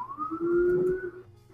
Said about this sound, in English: Well, there's a sirens, so there's that. Oh, so you can hear my sirens. Yes, I can hear your sirens.